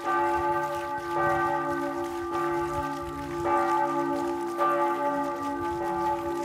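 A large bell rings out loudly on its own, struck repeatedly every second or two, each deep stroke layering over a long humming resonance that never fully dies away.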